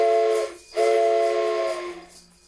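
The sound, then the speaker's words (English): A toy train whistle blows twice in close succession during a music recording session, a loud, breathy multi-tone chord with a brief gap between blasts, followed by a fading hiss. “And then take this train whistle and blow the train whistle every other time.”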